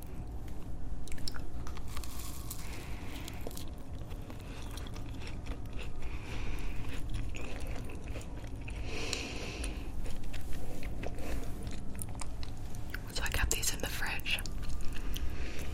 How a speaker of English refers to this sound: A little bit cold, which is so nice. Why I love macarons is you get the outer crunch, and then it's immediately soft and sort of just like spongy melts in your mouth.